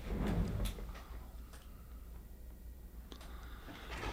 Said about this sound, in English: Okay. Just letting somebody in the door here.